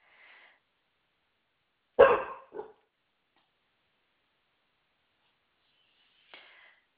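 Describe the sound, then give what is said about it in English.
Dogs bark in short, scattered bursts: a loud double bark in the middle, with fainter, higher yips near the start and end, separated by silence. “Yeah, my dogs have a lot to do with it because I just don't want them Oh, to be going crazy.”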